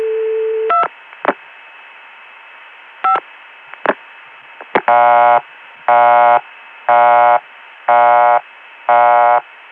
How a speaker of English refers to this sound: Now non-working extensions go to a PBX busy signal. This time I'll do the same thing but end up dialing a non-working extension.